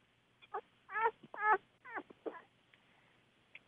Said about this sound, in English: Yeah, it sounds like a child. It sounds like a baby. It sounds like an actual baby, like a baby. So making little puppy noises.